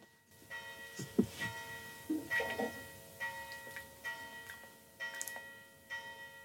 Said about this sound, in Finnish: No niin, nyt kun nuo tuomion kellot vihdoin vaikeni, niin mihin me jäätiin? Nehän muuten itse asiassa oli tuomion kellot.